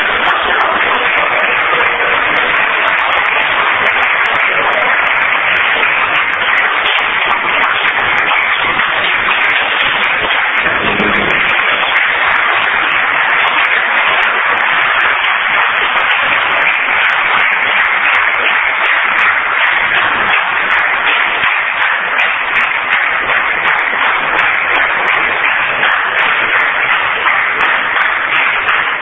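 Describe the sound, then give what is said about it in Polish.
A crowd applauds steadily for about half a minute, a dense, even wash of many hands clapping at a constant loud level with no voices breaking through. “Ja nie wiem, czy te brawa są dla zespołu, czy te brawa są dla mnie, żebym ja to zaśpiewał.”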